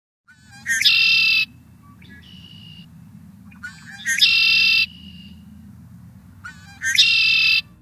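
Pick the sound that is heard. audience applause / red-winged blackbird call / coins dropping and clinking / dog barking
red-winged blackbird call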